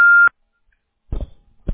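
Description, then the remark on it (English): A single steady electronic beep, the Google Voice tone after which a caller states their name, loud and clear, lasting about a quarter second, followed by silence and then a person starting to speak. “state your name after the tone, and Google Voice will try to connect you.”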